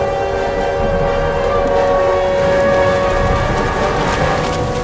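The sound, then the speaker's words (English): A tornado warning siren sounds during a bad storm, holding a loud, steady wailing tone throughout, its pitch barely wavering, over a constant wash of rain-like noise. No one speaks. “is that a tornado warning?”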